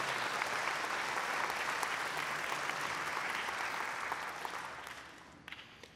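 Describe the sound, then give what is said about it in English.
An audience applauds steadily, dense clapping continuing for several seconds before tapering off with a few scattered final claps, given as another round of applause after a showing of opera sound-effect props. “How about another round of applause for Patty, Victor, and John?”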